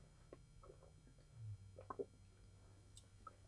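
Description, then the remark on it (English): A quiet sip of water: a few soft wet slurps and a small gulp around the middle, over a steady low hum, with no talking. “As it takes some water here, try to get through this.”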